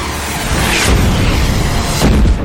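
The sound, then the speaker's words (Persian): Two heavy missile explosions boom out close together as launched missiles are destroyed by anti-missile fire, each a broad blast over a constant deep rumble, loud, with no voices. “موشک‌های پرتابی نابود شد.”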